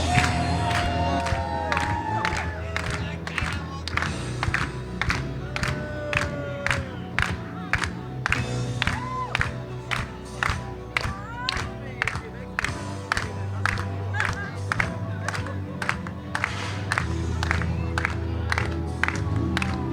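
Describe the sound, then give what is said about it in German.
A large audience claps steadily in unison, a loud rhythmic beat of about two claps per second, while cheering and scattered shouts rise and fall throughout. “Applaus!”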